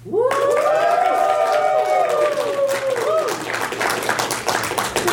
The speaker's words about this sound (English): Please, on the count of three, the countdown of three, give me a cheer for Clarice, because you know she deserves it. 3, 2, 1.